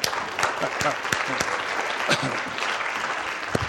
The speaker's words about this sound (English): So it says in the Word of God, clap with your hands, okay? So can you do that? Can you do that?